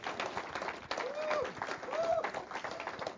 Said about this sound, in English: Let's stand up and give the Lord some applause for his works in our lives.